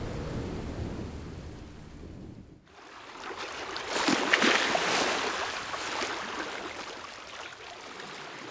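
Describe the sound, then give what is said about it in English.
Stormy sea noise with lightning and thunder: a deep rumble of thunder, a brief lull, then loud, sustained crashing and hissing of big waves smashing into a boat as it rocks and rolls. No voices. “It rocked and rolled on the stormy sea.”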